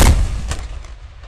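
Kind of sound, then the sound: sound effect, ship's cannon firing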